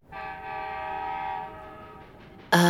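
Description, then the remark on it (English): A train horn sounds a long, steady chord that swells and holds, then a second, louder and brighter blast bursts in at the end as the train draws near. “Is that a train I hear? It sounds like it's coming this way.”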